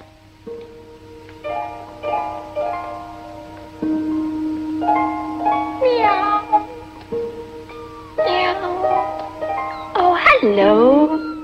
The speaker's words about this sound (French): Un chaton qui miaule dans la nuit romaine, un couple qui déambule, et la robe d'Anita Ekberg qui plonge dans la fontaine de Trévi. C'était la Dolce Vita, oui, en 1960